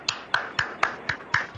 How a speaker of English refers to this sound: Applauding for myself.